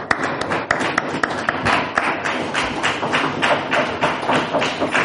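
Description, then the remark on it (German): Steady applause from a lecture-series audience for two speakers after their talk, a dense patter of many hands clapping at an even, sustained level for several seconds, with no voices over it. “Meine Damen und Herren, ich bitte um einen herzlichen Beifall für unsere beiden Referentinnen für diesen tiefen Einblick in die Praxis.”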